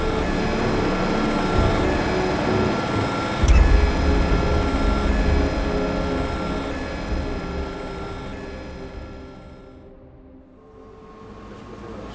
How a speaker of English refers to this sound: Lower the drone!